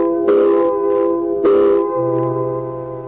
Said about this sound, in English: same quitting time, there was a whistle. Loud enough to buckle your knees and send waves up your spine.